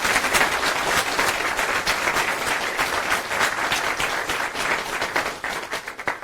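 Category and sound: crowd, round of applause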